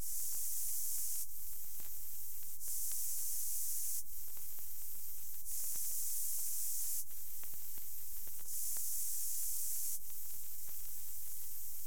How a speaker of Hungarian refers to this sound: Fehér zaj fázisban, ellenfázisban, ismét fázisban, és így tovább.